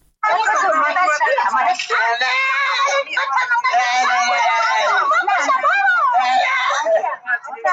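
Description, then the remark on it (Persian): A teenager screams and wails almost nonstop while being beaten and tortured by Iranian police on a road, in a video shared on social media; loud, with strained, wavering cries rising and breaking for the whole stretch. “فریاد نوجوانی که آه و نالش به گوش افراد منصوب به پلیس ایران نرسید.”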